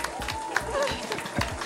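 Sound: audience clapping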